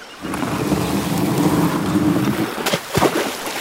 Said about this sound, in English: And here's my canoe. Can you help me drag it into the river so we can get started?